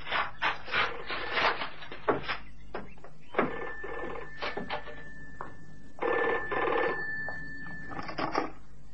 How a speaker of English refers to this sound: Well, there's the phone.